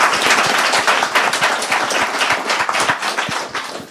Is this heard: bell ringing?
no